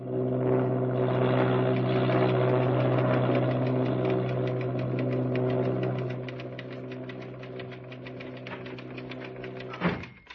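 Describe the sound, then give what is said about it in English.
A propeller airplane engine drones steadily in flight, a loud, throbbing hum with a rhythmic beat, as Leland Hayward flies his own plane from Roosevelt Field, New York, toward Hollywood in a cross-country record attempt. It eases slightly partway through, then gives a brief louder surge near the end. “Leland Hayward, socialite access manager, an amateur aviator, took off from Roosevelt Field, New York, at 2 a.m. today in his own plane in an attempt to break the existing cross-country record.”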